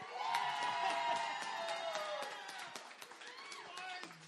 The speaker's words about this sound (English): All right, here we go. Everyone that wants to vote for Frozen, please clap and make some noise.